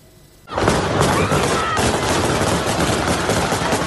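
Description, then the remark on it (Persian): Dense, sustained gunfire fired into the air by the Taliban breaks out after a brief quiet moment, shots overlapping into a continuous loud crackle of rapid bursts that carries on to the end. “گلوله هایی که طالبان برای شنیده نشدن صدای حقیقت به آسمان روانه میکنند.”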